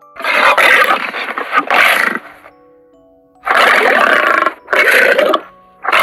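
A lion in a library, mouth opened wide, roars loudly in several long, rough bursts: one sustained roar, a short pause with a faint hum, then three more heavy growling roars in quick succession.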